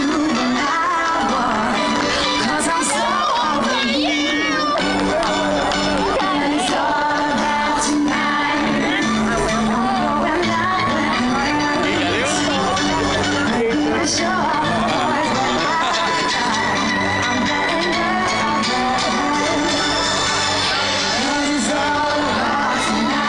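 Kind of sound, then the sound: crowd, concert crowd cheering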